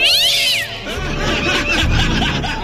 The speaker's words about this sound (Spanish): Ah, un sonido de gata. Acá tengo un sonido de gata.